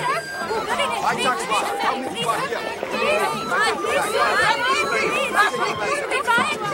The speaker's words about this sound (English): At a tiny, dilapidated airport in Tanzania, a propeller plane taxis along a dusty runway. Someone wheels steps to the plane door. Merchants hawk their wares as passengers step onto the runway.